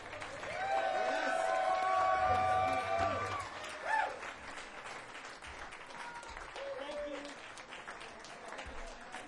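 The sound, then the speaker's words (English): An audience applauds after a live performance with dense, steady clapping, joined early on by sustained whistles and cheers. The clapping continues at a slightly lower level through the end. “Let's give it up for Alan Hurst for conducting.”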